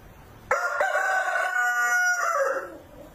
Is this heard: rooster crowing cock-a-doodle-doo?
yes